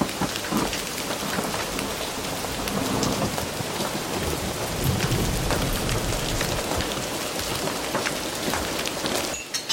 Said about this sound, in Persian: چه بارونی هم داره میاد.